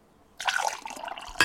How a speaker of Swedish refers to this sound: varmt eller kallt vatten som hälls upp i ett glas. Hur konstigt? Aha. Ska vi testa?